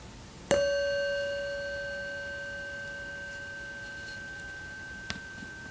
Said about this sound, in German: Hören Sie gleich den Klang der Glocke und all die anderen Geräusche um Sie herum.